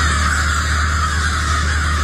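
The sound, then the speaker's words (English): A dense chorus of crows cawing continuously, many birds calling over one another in a loud, harsh racket with no pauses, as a large flock passes overhead one morning. “So this is a video a resident took of the crows flying overhead one morning.”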